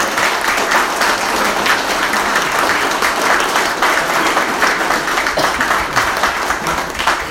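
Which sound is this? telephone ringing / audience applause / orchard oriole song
audience applause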